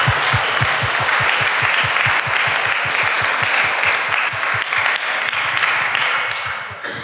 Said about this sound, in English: So if everyone could just, you know, give a round of applause to all the volunteers and everybody who made this happen.